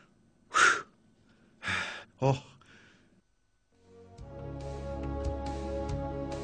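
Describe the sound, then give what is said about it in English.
A person who has just worked out breathes rapidly: several quick, forceful, heavy breaths come in rapid succession, then stop; a steady tonal musical bed fades in afterward. “In the same way that my breathing under normal conditions is out of my control, so is the way that I am currently breathing quickly.”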